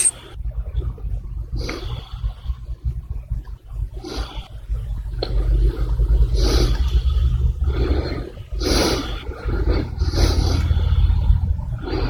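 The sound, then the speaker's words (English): Fireworks going off outside: a steady deep rumble with a series of sharp, crackling bursts every second or two, growing louder and denser toward the end. No one speaks. “They're sending off fireworks everywhere here.”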